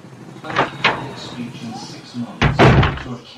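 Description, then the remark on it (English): A door opens and shuts: two quick latch clicks, then a heavier closing thud with a rattle near the end, while soft voices murmur in the background. “Through the door, and keep your mouth shut.”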